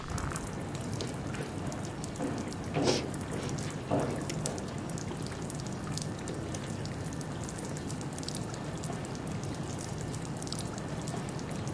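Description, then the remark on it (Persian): Steady running water pours continuously from a water valve left open, a broad hissing splash with a couple of brief louder gurgles early on, with no voices over it. “باز این فلکه تجیشو باز گذاشتن. نمیفهمم این بچه خوابیده صدای آب اذیتش میکنه.”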